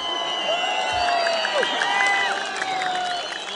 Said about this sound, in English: It's Massoud country, a place where thousands of frantic supporters poured into a small stadium and in the blistering midday sun cheered on the candidate who once touched their greatest hero.